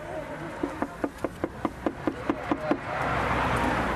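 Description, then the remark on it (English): A quick, steady series of about ten knocks on a front door on a Tuesday night, evenly spaced and fairly crisp, followed by a rising wash of background noise once the knocking stops. “The first door we knocked on, there was quite a lot of noise coming from inside.”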